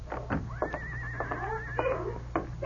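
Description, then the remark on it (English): A skittish horse hitched to a two-seated buggy whinnies once in a street before dawn, a wavering, trembling neigh lasting about a second, nearby and clear over a low steady background rumble. “To his surprise, he saw a horse and two-seated buggy nearby.”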